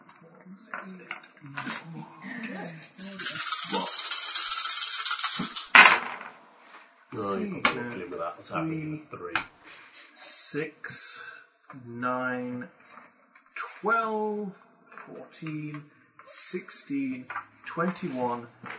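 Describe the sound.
A handful of nine dice, rolled for damage in a game, rattles and clatters for a few seconds, a busy bright jangle ending in a sharp clack, with people talking before and after.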